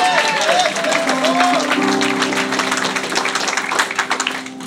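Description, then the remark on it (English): An audience claps steadily as a hand clap of praise in church, a dense, sustained burst of applause, with an organ or keyboard holding tones underneath and some cheering voices mixed in. “Come on, if you're blessed, give them a hand clap of praise.”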